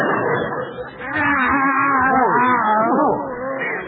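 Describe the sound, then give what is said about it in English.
Tomcats on Skid Row in Los Angeles yowl in drawn-out, wavering cries whose pitch slides up and down, several voices overlapping loudly with no pause, over a rough, noisy background. “These are Skid Row tomcats.”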